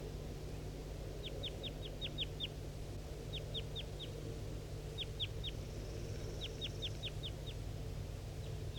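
bird, wild bird calling

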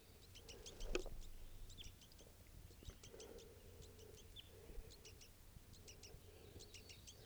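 bird, wild birds calling

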